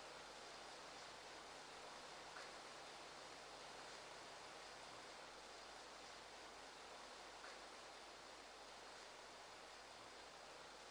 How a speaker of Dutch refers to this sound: Hoeveel kuub water per vierkante centimeter valt hier naar beneden, zeg?